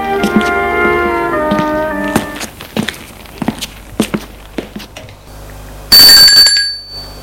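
doorbell ringing

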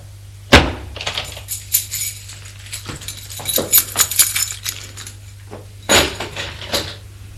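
wooden door being opened

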